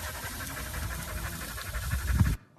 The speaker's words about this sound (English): Can you hear that? The dogs are out with us. Do you hear the panting?